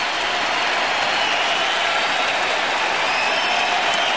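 standing ovation applause

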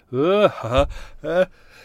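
sneeze

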